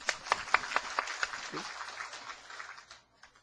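A church audience breaks into applause for someone registering with the church, a few sharp, distinct claps at first blending into a dense patter of clapping that gradually thins and fades out over a few seconds.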